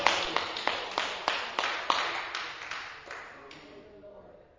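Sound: audience clapping hands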